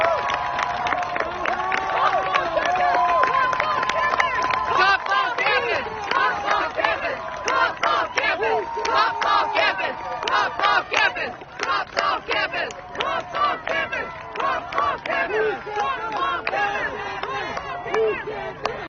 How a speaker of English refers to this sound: A video of the scene shows the crowd shouting, "Cops off campus, cops off campus." Listen to this for a moment.